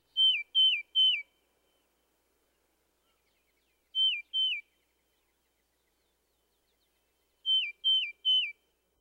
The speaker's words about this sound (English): You can tell them apart, however, by listening for the radical up or down slurring in the cardinal's liquid whistles and the steadier pitch of the titmouse's slurred whistle. First, the cardinal. Next, the tufted titmouse.